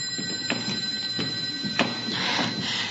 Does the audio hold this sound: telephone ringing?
yes